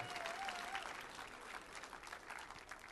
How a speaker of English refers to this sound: Let's give the band a round of applause as well, eh?